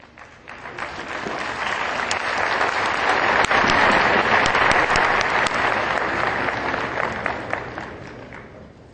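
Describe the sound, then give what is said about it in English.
A crowd bursts into sustained applause welcoming the representative of the mayor of Lomé on stage, dense clapping building quickly, holding steady and loud for several seconds, then easing slightly toward the end, with no talking. “Welcome him on stage with big applause.”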